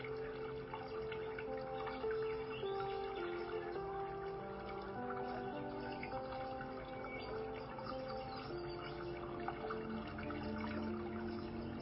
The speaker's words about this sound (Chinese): 那大家可以花一点时间先感受一下你的呼吸，也可以听一下流水的声音，或者你周遭的声音。